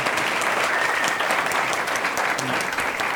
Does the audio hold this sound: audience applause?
yes